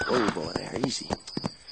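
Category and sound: animal, horse hooves clip-clopping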